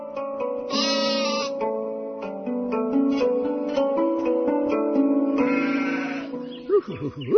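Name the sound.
sheep bleating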